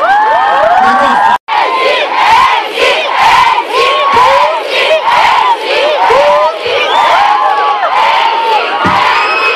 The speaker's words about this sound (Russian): Когда таких талантливых молодых поддерживают, когда они слышат такие аплодисменты,